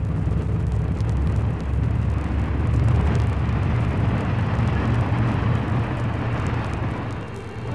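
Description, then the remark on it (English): A car speeding toward a railway crossing roars loudly and continuously at high speed, a dense, rumbling drone that holds steady throughout and eases slightly near the end, with no voices. “Batman, you're heading right for the train. You're driving through it.”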